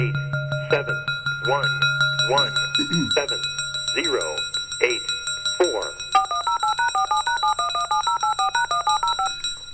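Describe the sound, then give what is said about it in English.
A rapid string of beepy DTMF telephone dialing tones, stepping quickly between pitches, follows a few seconds of indistinct voice-like sounds over a low steady hum. “If you heard a bunch of beepy DTMF type tones, you know that the time is 1930 UTC.”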